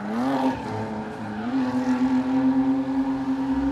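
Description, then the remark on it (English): A car's tires squeal loudly and continuously while it spins in donuts at Irwindale Speedway, a steady screeching whine over a rumbling engine that wavers slightly in pitch, with no voices. “cars zoom down the drag strip and burn rubber in the burnout box, and drivers squeal around in donuts.”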